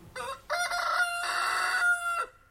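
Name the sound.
rooster crowing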